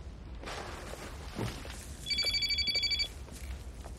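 A telephone rings once in a rapid, trilling electronic burst lasting about a second, clear, before it is answered, over a low background hum with a few faint knocks and shuffles.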